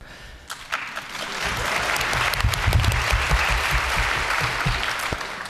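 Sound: audience applause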